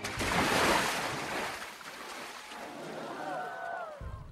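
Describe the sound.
A big, loud splash as a performer flips off a stage into the water surrounding it during the final dismount of a show, then churning and sloshing water, with faint raised voices calling out near the end.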